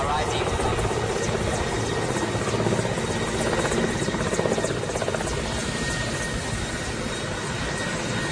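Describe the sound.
A Soviet-era Red Army military helicopter in flight, heard from on board as it arrives at Waikale in Congo after a 50-minute flight, its engine and rotor making a loud, steady roar throughout, with faint muffled voices buried beneath the noise.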